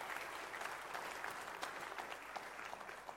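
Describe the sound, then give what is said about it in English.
Sustained applause from a large audience at a morning service, for everybody involved in the service, a steady wash of many hands clapping at once, fairly full and even throughout with no voices standing out. “Can we just give a big round of applause to everybody who's been involved in our service?”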